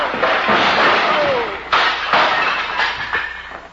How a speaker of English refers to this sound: The way you're hitting him, he's going to fall against the bar and upset those beautiful bottles